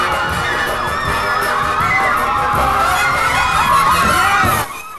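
A large crowd of women shouting and shrieking together as they chase a man, loud, a dense, frantic wall of high voices that carries on steadily before cutting off abruptly near the end.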